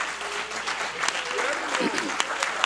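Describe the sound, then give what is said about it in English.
A crowd claps hands for Jesus in steady, dense applause, with sharper individual claps standing out, while a few voices call out faintly underneath. “Why don't you put your hands together for Jesus tonight?”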